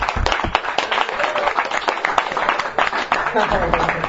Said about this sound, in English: I think we have to give a real round of applause to the wives of the Bnei Koilel, the Mesiris Nevesh for the Bnei Koilel.